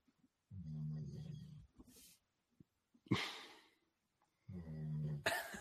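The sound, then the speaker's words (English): A dog snoring: two low, rumbling, buzzy snores a few seconds apart, each followed by a sharp, breathy huff of air, with no one talking. “Not only do I have a dog that snores.”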